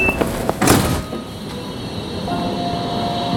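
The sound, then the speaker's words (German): A brief high beep, then the quick whoosh and thud of train sliding doors shutting, followed by the steady, low rumble of the carriage interior. “Kurz bevor die Türen zugehen, piepst es viermal.”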